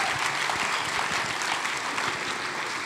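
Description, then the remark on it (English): A church audience claps steadily and continuously for mothers called to the front, a dense wash of many hands at fairly even loudness throughout, with no voices standing out. “Can we give a round of applause for these amazing mamas?”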